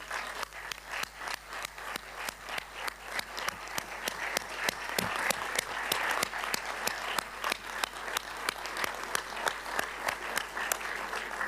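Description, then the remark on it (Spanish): A crowd applauds steadily to celebrate Brazil's return to CELAC, dense overlapping claps forming a broad wash of sound with sharper individual claps standing out, swelling slightly toward the middle and sustained throughout without any talking. “Antes de rendirles cuentas de lo que hemos hecho, quiero pedirles a todos un enorme aplauso para celebrar el retorno de Brasil a la CELAC.”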